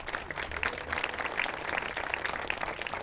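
A crowd applauds steadily for about three seconds, dense overlapping claps forming a continuous patter at an even loudness, with no one speaking.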